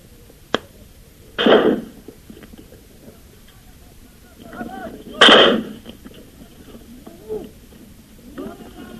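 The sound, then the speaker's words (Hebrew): Gunfire from all directions, including Jordanian sniper fire, during an advance at the entrance to the Old City: a sharp crack followed by two heavier, booming shots a few seconds apart, with faint voices murmuring in the gaps between them. “עדיין יורים מכל הכיוונים.”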